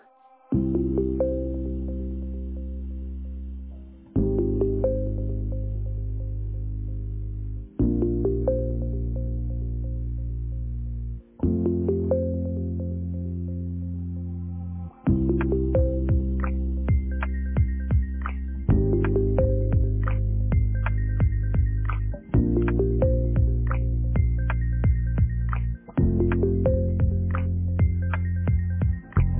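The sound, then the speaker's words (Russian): A phone ringback tone for an unanswered call plays as a looping electronic melody of sustained, steady notes, repeating in even blocks of a few seconds each, loud, with no one speaking. “Вызываемый вами абонент сейчас не отвечает.”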